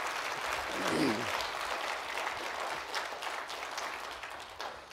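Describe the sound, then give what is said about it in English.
A crowd applauds steadily in thanks to a choir, a dense wash of many hands clapping together at a moderate, even level, with a brief vocal murmur rising near the start. “So if you've been holding applause, now's the time.”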